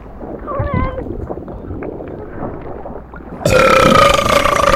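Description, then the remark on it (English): A loud, drawn-out burp rumbles for about three seconds, low and gurgling, before an abrupt burst of louder, hissing noise with a steady tone cuts in and continues to the end. “I don't normally burp up clothes.”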